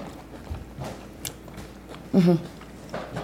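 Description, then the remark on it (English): Crunchy biting and chewing of homemade pizza crust, a series of dry crackling chomps at an uneven pace, with a brief louder mouthy sound partway through. “The crust could be a little bit fucking softer. But that's what you get for. I like it kind of crunchy.”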